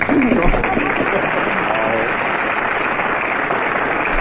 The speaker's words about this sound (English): All right, folks, you made your applause. Now lie in it.